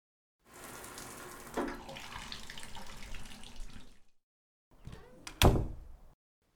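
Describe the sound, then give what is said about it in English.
A steady rush of shower water runs for a few seconds, cuts off, then a shorter spurt of water follows, punctuated by a sharp knock. No one speaks. “Why don't you go use my shower and get yourself ready?”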